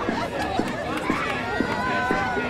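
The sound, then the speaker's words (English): A large outdoor crowd of over 50,000 people preparing to run the Boulder Boulder 6-mile citizens race chatters in a dense, continuous hubbub, while music over a loudspeaker pulses beneath it with a steady beat about twice a second. “That's the loudspeaker music and the crowd as over 50,000 people prepare to run in the Boulder Boulder 6-mile citizens race.”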